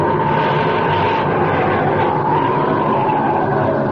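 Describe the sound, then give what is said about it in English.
A loud, sustained whooshing roar like a jet taking off, steady and dense across the full four seconds with a broad rushing texture and no voices. “Up, up, and away.”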